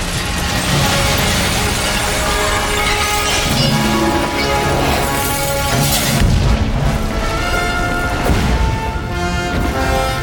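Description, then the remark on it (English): In a Superman film, Kal-El's spaceship smashes through a crystal ceiling on his doomed home planet: heavy booming crashes and shattering impacts, loud, buried under a sustained, blaring orchestral fanfare for about ten seconds. “An entire city is being laid to waste. No music. Then, as the ship finally crashes through the crystal ceiling, we hear a huge Superman fanfare.”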